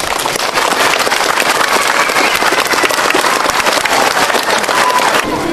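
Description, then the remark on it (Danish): A large audience breaks into sustained, dense applause to congratulate a school, many hands clapping at once in a steady roar that continues nearly the whole time before tapering slightly at the end. “Men vi kan måske alle sammen give jer en stor klapsalve og et tillykke.”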